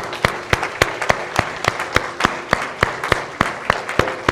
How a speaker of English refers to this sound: Just this morning, before we do anything else, I just want you to give the Lord a hand clap of praise. What do you say?